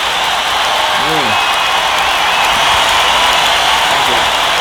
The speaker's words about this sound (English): Thank you. No, please, thank you. No. Alright, actually, no, I love it. Keep cheering.